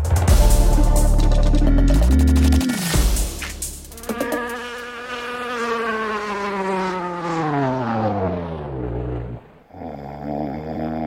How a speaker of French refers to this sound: Et quand les néonicotinoïdes entrent dans une ruche, Axel, les abeilles s'endorment à peu près comme ce qu'on entend.